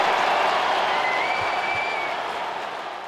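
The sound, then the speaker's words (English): A hockey arena crowd at SAP Center in San Jose applauds Ovechkin's career goal number 887, putting Washington up 5-1 over the Sharks, in a steady, dense wash of clapping that stays loud throughout and tapers slightly toward the end, with a faint whistle cutting through midway. “5-1 Washington, and the crowd shows its respect.”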